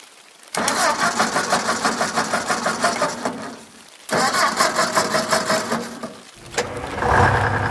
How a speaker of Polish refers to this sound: Ciężarówko, wstajemy. Wujku, odpal jej silnik. Pewnie potrzebuje się rozgrzać, aby się obudzić.